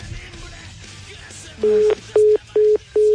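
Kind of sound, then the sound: signal or alarm, telephone line tone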